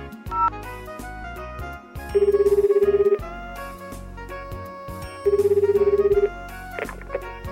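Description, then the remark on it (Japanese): A telephone ringback tone sounds twice while calling the Kurashiki City call center, each burst lasting about a second with a pause between, over a steady backdrop of music; no one speaks. “コールセンターですから、今回も電話してみましょう。”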